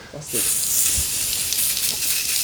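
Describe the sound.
A steady, bright hiss of hairspray sprayed onto a head with little hair left starts after a short pause and keeps spraying loudly for a couple of seconds, with faint murmurs of a voice underneath.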